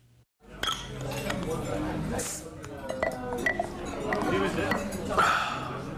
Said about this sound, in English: A young man with a neatly trimmed goatee and a fedora hat opens a bottle of craft beer and takes a gulp inside a smart bar in Johannesburg.